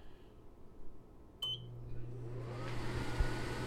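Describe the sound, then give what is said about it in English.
A short electronic beep, then a microwave oven's fan is switched on: a steady low hum joined by rising airy whooshing that continues to the end, with no talking. The fan noise is used to test how a microphone windscreen affects frequency response. “Let me turn on the microwave fan again.”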